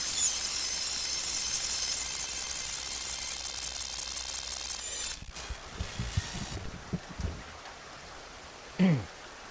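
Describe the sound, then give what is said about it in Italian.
Heavy rain pours down in a dense, steady hiss for about five seconds, then gives way to scattered dull thumps and clattering mechanical knocks, ending with a brief louder bump. “Mamma mia, se piove.”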